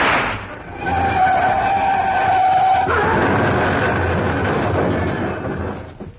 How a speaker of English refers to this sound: The car started along the road once again and I took a wild shot.